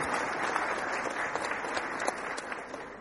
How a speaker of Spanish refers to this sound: A todos ustedes les pido un fuerte aplauso porque es una lucha que tenemos que dar en conjunto.